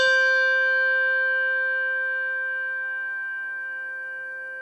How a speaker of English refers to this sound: Here, I'll play them again. Schulmerich bell with tang.